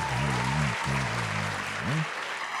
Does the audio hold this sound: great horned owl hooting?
no